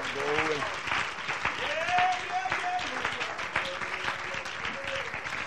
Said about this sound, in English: Come on, clap your hands to the Lord and let's thank him. Hallelujah.